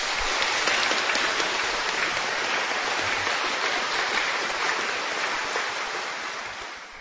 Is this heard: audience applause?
yes